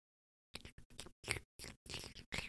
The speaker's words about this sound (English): This is going to be ASMR chewing